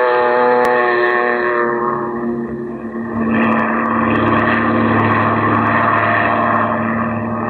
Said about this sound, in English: Then you wade out to the plane, and a few minutes later, you're skimming across the bay, headed toward the Gulf.